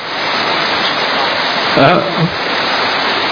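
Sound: heavy rain pouring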